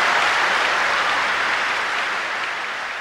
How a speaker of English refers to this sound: To have this room of people cheer like that for an airport, there is something else going on here. Because for the people in the audience, this wasn't about some big construction project.